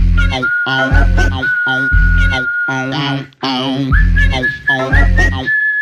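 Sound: whistling a tune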